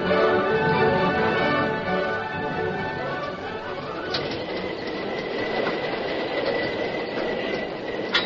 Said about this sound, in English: Inside the cab of the engine, the Lone Ranger, deserted by the fireman and the engineer, worked frantically to bring the fast-moving train to a stop before it reached the river and plunged into the void where the bridge had been.